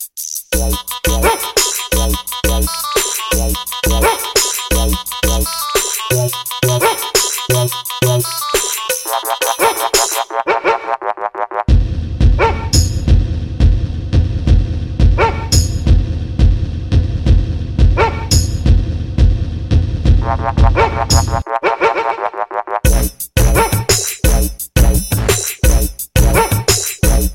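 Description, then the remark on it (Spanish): A loud 2008 dancehall riddim with a driving, punchy beat and dog-bark samples scattered through it, dropping into a heavy bass-led stretch midway before the full beat returns. No one speaks. “No tenemos aquí el sampler, pero dancehall, dancehall.”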